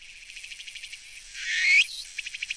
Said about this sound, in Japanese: 正解。つくつく帽子でした。もうつくつく帽子はわかりやすいね。うん、で、途中でさ、 トゥクトゥクティーヤー、トゥクトゥ クティーヤーって言ったね。